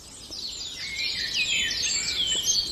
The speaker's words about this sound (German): Da war er eben, der Baumläufer, auch sehr zart, schrill hoch.